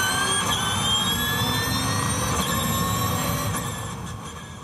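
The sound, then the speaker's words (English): An electric race car's high, steady whine, its pitch gliding as it passes, over a broad rushing whoosh that eases off at the end. No voices. “It's a whine and a whoosh, yeah, and that is a different sound, and I think that's you'll probably need a younger generation to grow up with that.”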